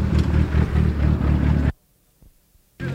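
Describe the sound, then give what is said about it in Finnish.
A rally car driven by Juha Kankkunen passes by, its engine roaring loudly with a steady throbbing rumble for under two seconds, then cutting out abruptly to near silence before the engine noise returns briefly at the end. “Nätti auto kuin mikä ja hieno ääni.”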